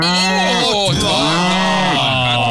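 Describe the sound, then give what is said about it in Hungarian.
Several cows moo loudly, their long, wavering calls overlapping one another with rising and falling pitch across a couple of seconds. “Na várjál akkor, hallgassuk csak, hogy itt vannak ezek a tehenek, figyelj csak. Itt vannak, halljuk őket.”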